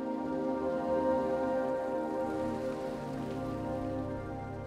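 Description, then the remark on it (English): Heavy rain pours down in a steady, unbroken wash of noise, loud throughout, with a low rumbling undertone and no voices. “He looked on as the car pulled away from the curb in the pouring rain.”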